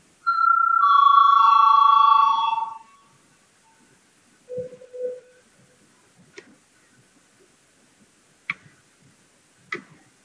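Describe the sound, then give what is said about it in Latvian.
A loud electronic bell rings steadily in the Latvian parliament for about two and a half seconds before a vote on a bill amending the social services and social assistance law, a bright buzzing tone. It is followed by a brief low hum and a few sharp, sparse clicks in near silence. “Lūdzu zvanu.”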